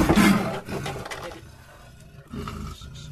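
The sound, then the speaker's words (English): A female leopard in a small green cage at a plant nursery surrounded by agricultural fields lunges at the approaching ecologist Vidya Atreya with a harsh snarling roar and slams against the metal cage bars in a loud burst, followed by lower growling and a second, softer clatter near the end. “As the ecologist Vidya Atreya approaches, it jumps at her and slams against the bars.”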